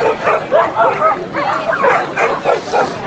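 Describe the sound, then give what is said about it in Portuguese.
Several dogs bark and yip repeatedly in a lively, overlapping chorus, loud, with a few whimpering notes mixed in against a busy outdoor background, at the 2019 Pet Day Cão Ninhada event in the square of the old airport of Maringá. “Sabe aquele vento bom para cachorro que nem os latidos incomodam?”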